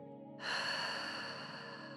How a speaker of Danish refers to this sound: Hold munden lukket på din næste udånding, men forestil dig, at du ånder ud med åben mund, som om du skal dukke et par briller for at puste dem. Mens du ånder ud, tilføjer du et væsende.